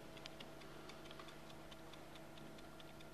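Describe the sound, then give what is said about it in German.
A wind-up egg timer, just wound, ticks steadily and quickly, each click crisp, with a faint hum in the background and no voices. “Das ist wie mit dieser Eieruhr hier. Die kann ich aufziehen und dann tickt's.”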